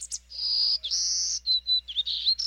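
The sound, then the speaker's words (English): A golden-cheeked warbler, a small yellow, black and white songbird, sings a high, buzzy song of drawn-out trills and short wheezy notes, clear, with no voices or other sounds around it. “The golden-cheeked warbler is a star performer.”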